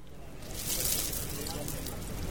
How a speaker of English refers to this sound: At a small corner stall in the Old Delhi neighborhood of the Indian capital, a satellite dish-sized pan sizzles with jalebis, a deep-fried Indian sweet.